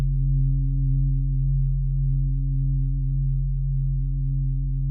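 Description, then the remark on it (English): Singing bowls ring during a guided breathing and relaxation session, in a sustained, steady hum of low, layered tones that hold at an even loudness for the whole stretch, with no voices. “Listening to the sounds of the bowls, the sacred sounds.”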